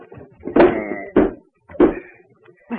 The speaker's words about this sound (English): Put the bed against the door. Here, I'll give you a hand. Right over there.